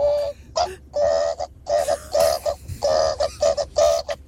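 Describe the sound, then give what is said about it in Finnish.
A person imitates a rooster crowing, with a quick series of short, high-pitched vocal bursts in a choppy rhythm. Each call is bright and fairly loud, and no one else talks. “Matkia kukkoa. Kukko kiekuu!”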